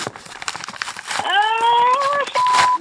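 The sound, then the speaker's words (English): Crisp rustling and crinkling of a big manila paper folder from the CIA being opened and handled, with a sustained high, voice-like hum rising in over the second half while the paper keeps crackling. “I just got this big manila folder from the CIA.”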